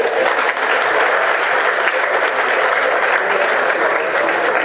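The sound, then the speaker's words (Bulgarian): Hundreds of people at the official launch of the ABV Movement 21 coalition's election campaign clap steadily for several seconds, a dense, loud wash of many hands with no pauses and no voices rising above it. “По се ръкопляска.”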